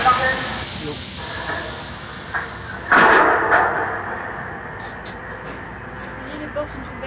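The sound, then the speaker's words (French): Doors open with a loud pneumatic hiss, a sharp burst of air that trails off amid steady rumbling, with faint voices murmuring in the background. “Ça y est, les portes sont ouvertes, ouais.”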